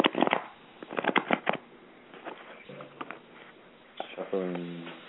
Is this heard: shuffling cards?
yes